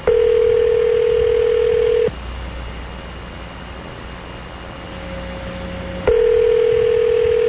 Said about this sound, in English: Is that unusual to have this many? Seriously, how many rings is it going to take for this thing to